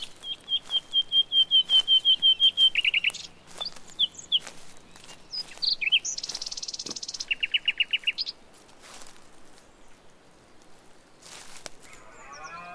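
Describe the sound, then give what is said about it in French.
Nightingales sing in varied phrases: a fast run of repeated piping notes, then buzzy trills and sharp whistles, clear, with no voices. “Ce sont les rossignols qui chantent.”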